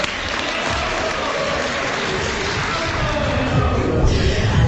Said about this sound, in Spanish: Un aplauso, claro, por favor.